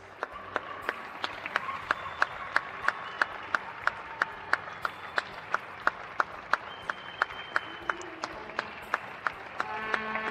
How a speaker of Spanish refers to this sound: Aplausos, ganas de aplaudir, emoción de los vecinos de Madrid agradecidos y de toda España agradecidos a los médicos, enfermeras, enfermeros, médicas, sanitarios, vigilantes, conductores de ambulancias, taxis, autobuses, tenderos, cajeros,